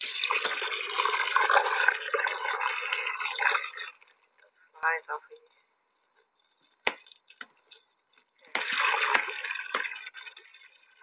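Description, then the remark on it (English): Water gushes steadily for several seconds as it is run for a horse to drink, stops for a stretch of quiet with a brief voice and a few clunks, then starts pouring again. “Come on, you want to drink some water?”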